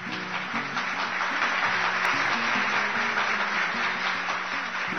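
An audience claps steadily for several seconds, a dense, even wash of applause with a low musical tone humming underneath throughout.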